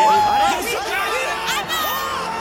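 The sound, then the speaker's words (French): A man yells loudly and continuously over a noisy crowd, his raised voice mixing with other excited shouts and cheering. “ce hurlement, c'est le mien. Vous l'entendez, j'ai la voix qui porte, comme on dit.”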